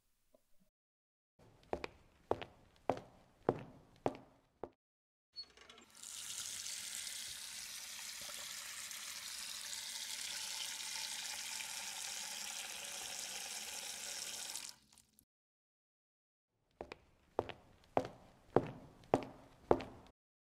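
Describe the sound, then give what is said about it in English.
A handful of steady footsteps on a hard floor, then a tap gushes cold water in a continuous hiss for several seconds as someone fetches a cloth and cold water, shuts off, and more footsteps follow. No one speaks. “I'm gonna grab a cloth and some cold water.”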